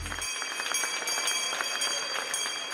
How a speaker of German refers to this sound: Ja, diese Glocke, die kennen Sie vielleicht, denn die wird bei Börsengängen in Frankfurt regelmäßig geläutet.